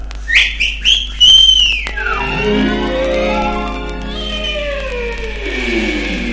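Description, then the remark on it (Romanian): A whistle calling a falcon: three quick, high chirping whistles ring out, followed by a long, loud, wavering tone that slides slowly downward and lingers for several seconds, with no talking. “Vine la o numită fluierătura mea.”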